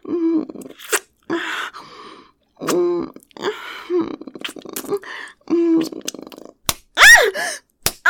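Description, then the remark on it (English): Several sharp, loud slaps of a hand on bare buttocks land at irregular intervals, mixed in with a voice's breathy moans and gasps. “Yeah, you like slapping my ass for them, don't you?”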